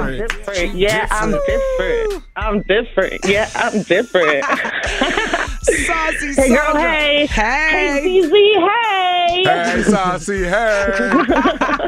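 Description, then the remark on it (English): A short, upbeat theme-song jingle for a regular phone-in caller plays loud for several seconds, with lively sung vocals gliding over bright, bouncy accompaniment in a continuous stream. “She called in 5 days in a row and got her own theme song, and she is saucy.”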